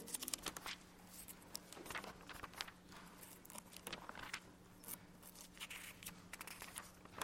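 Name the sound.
many Bible pages turning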